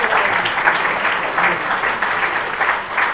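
Steady applause from an audience, many hands clapping in a dense, continuous patter that holds at an even level throughout, with no voices standing out.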